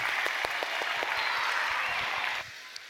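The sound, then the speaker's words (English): A crowd applauds missionaries serving in Monterrey, Mexico, as they come up to talk about their ministry; dense clapping with a few sharper individual claps standing out, sustained for a couple of seconds before abruptly dropping off, leaving a faint lingering clap or two. “So why don't we give them a big round of applause as they are going to come and tell us more about their ministry.”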